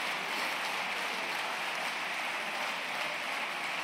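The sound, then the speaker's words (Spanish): Sustained applause from Partido Popular deputies and senators seated in the parliamentary chamber, a steady dense wash of many hands clapping at once, continuous and even throughout with no voices heard. “es continuamente interrumpido por aplausos por sus compañeros de la bancada del Partido Popular, diputados y senadores sentados hoy en el hemiciclo.”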